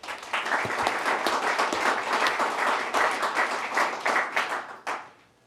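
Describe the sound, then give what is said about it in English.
A group applauds together to recognize a staff member's 10 years of service, a dense, steady patter of many hands clapping for about five seconds before tapering off quickly at the end. “let's clap 10 years for Cheryl Martinez”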